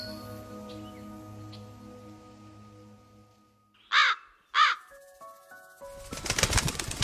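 Two harsh caws from a young crow setting out to find food ring out close together, loud and clear, over a soft tonal musical background that swells into a brighter, busier passage afterward.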